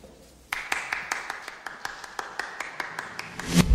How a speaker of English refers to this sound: Jason Schwartzman's character, the one person clapping for that speech.